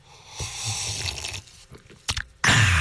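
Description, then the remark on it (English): Wet slurping sips of hot coffee, brewed in a 1960s vintage Westinghouse coffee pot in a studio, with soft mouth and lip noises, a few brief sharp bursts, then a louder breathy rush at the end. No one speaks. “We have a working coffee pot, and we brewed a pot of coffee. Here, I'll take a sip here.”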